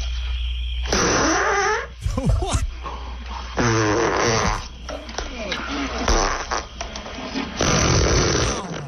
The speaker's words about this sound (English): The very first fart scene in cinema was